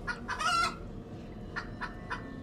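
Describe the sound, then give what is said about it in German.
Chickens clucking, a loud burst of squawky clucks followed by three shorter, evenly spaced clucks over a low, steady background rumble. “Hühnergegacker.”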